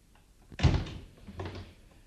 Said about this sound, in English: I am in. Well, shut the door. Oh, sorry.